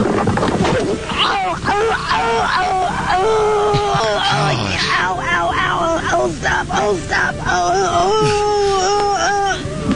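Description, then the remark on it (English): A woman cries out and moans in pain after falling face first from a raised platform, loud, her wavering, strained wails running almost without pause, with other voices faintly mixed in. “Gosh, she's in such pain.”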